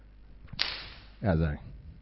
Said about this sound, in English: So Jesus comes in there, and he's got a whip, probably one like this, and he's, you know, running around there, and I won't go too close.